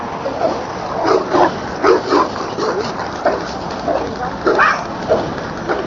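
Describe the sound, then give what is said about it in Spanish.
Dogs bark in a scattered series of short, yappy bursts, some in quick pairs, over a steady background hiss. “Oh, perros, como siempre.”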